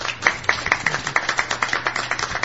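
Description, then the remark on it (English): A small audience at the Paranormal Symposium in Angel Fire applauds the speakers, with brisk overlapping hand claps forming a steady patter over a faint low hum, moderately loud, with no voices. “And audience, if you applaud for these people, they did a great job.”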